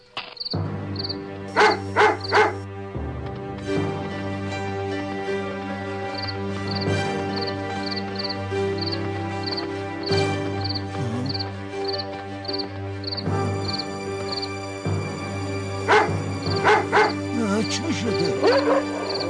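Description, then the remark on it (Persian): Wild dogs bark and yip in sharp bursts near the start and again toward the end, over a steady droning backdrop with faint repeated chirps, while a voice speaks. “از اینجا دور شوید، از اینجا دور شوید، سگ‌های وحشی، دور شوید، دور شوید.”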